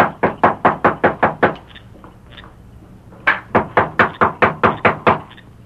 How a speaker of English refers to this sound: That's his room overhead. I'll knock.